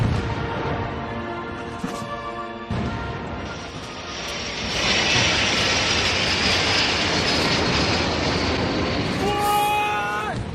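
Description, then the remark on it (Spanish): A loud roar of military jets passing overhead during a national celebration flypast over the Avenida de la Castellana in Madrid, Spain, watched by thousands of people, swells midway and holds as a broad, rushing wash of engine noise, with high tonal whines at the start and end. “58 aviones, 26 helicópteros han volado sobre la Castellana ante el asombro y admiración de miles de personas.”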